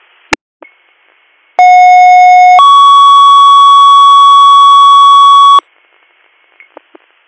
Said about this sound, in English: Okay, Mickey 33, you're clear and available at 1810, you're DR 3681, 3681, stand by for second due tones.